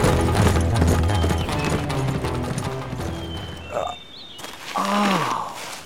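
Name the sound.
horse hooves clip-clopping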